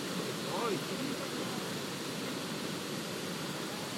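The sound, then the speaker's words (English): A steady, full roar of a waterfall dropping into a pool with a great mist of spray on a sunny day fills the whole clip without letting up, with a faint voice briefly audible near the start. “Because where the water actually falls, drops into the pool, there's a great mist of spray floating around. And the sun's glinting on the water and the sun's glinting on the waterfall as well.”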